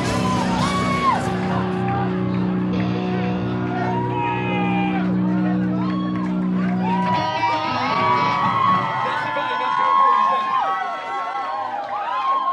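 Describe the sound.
A loud crowd at an emo band's concert shouts and whoops continuously, many overlapping voices yelling over a low sustained musical drone that fades after several seconds, leaving only the excited cheering.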